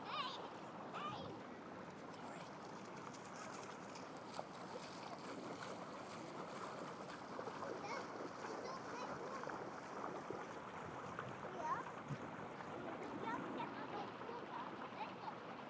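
flowing water

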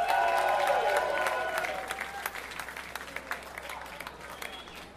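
audience applause and cheering

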